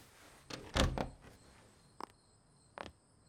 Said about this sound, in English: Close the door.